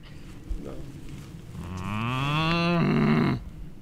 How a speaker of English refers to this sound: tried to get German cows to talk to us. I mean, are you sure they're going to make noise? Yeah, we will try it.